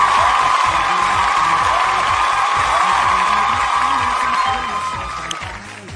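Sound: audience applause and cheering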